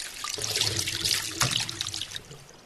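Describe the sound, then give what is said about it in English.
Water pours steadily from a water bottle into an opening in a car, a continuous splashing trickle lasting a couple of seconds before tapering off. No one speaks. “He takes a drink from the water bottle and then pours the rest into his car.”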